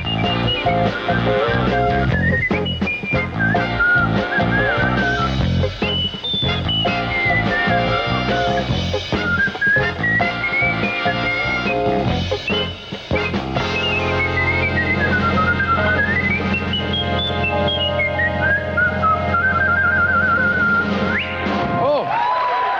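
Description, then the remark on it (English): Jazz whistling by a whistler: a bright, agile whistled melody swooping and sliding through phrases over a full, steady instrumental backing with rhythmic accompaniment, loud throughout with no talking. “As for where whistling went after that, well, Johnny Carson celebrated the astonishing jazz whistling of … on The Tonight Show.”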